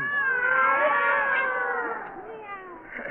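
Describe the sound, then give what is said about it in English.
Two alley cats on a back fence at midnight yowl and caterwaul in long, wavering, drawn-out cries that rise and fall, overlapping loudly for a few seconds, with a brief quieter gap before another cry. “And every night at 12 o'clock, they would sit on the back fence and bill and coo, I mean, meow and mew.”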